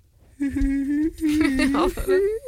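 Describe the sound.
A person's voice imitates a sad dog whimpering: a sustained, whiny tone that wavers and dips in pitch for about two seconds, fairly loud, with no words spoken.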